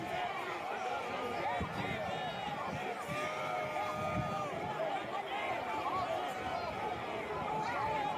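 A crowd booing and jeering in a dense, continuous wall of overlapping voices, loud throughout, with no individual words standing out from the din.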